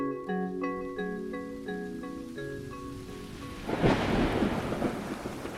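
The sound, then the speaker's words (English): Soft, sustained melodic tones play for a few seconds, then a sudden loud crack of a lightning bolt striking a single tall tree in an open field bursts in, followed by rumbling thunder and steady rain. “Envision a lightning bolt from the sky striking a single tall tree in an open field.”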